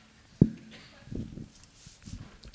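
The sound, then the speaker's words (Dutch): A few footsteps thud across a hall at an uneven walking pace as someone walks from the far end of the table: one sharper step near the start, then softer, duller steps. Faint voices murmur in the background. “Dat is de verst mogelijke uithoek van de zaal. Dat is goed voor het bewegen. Stappen.”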